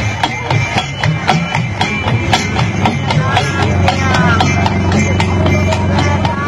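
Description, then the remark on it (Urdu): Steady clip-clop of hooves from a horse-drawn cart travelling from Bandar Road to Keamari, a brisk even trotting rhythm of sharp knocks running throughout, set against a musical backing with sustained tones. “بندر روڈ سے کے ماڑی میری چلی رے گھوڑا گاڑی, بابو ہو جانا فٹ پاتھ پر.”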